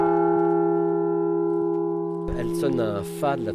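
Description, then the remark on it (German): A large cast bell, 1.20 metres high and weighing about a tonne, rings its F1 strike tone in the old brick hall of a bell foundry in Normandy. It gives a deep, sustained, slowly fading, resonant hum of layered tones before a man begins speaking over the lingering ring. “Diese Glocke erzeugt den Nominal, also den Schlagton F1.”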